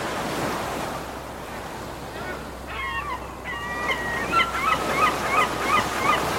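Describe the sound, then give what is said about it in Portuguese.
Steady, rushing surf washes continuously onto the shore, with a chorus of honking seabird calls rising over the waves from midway through. “O mar empurrou o ursinho para levar ele à casa dele.”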